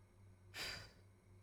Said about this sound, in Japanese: こうやって、相手の吐息が耳にかかったり、相手の呼吸音が聞こえてくるんですよ。